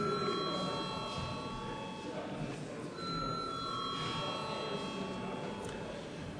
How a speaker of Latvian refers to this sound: Paldies, lūdzu zvanu.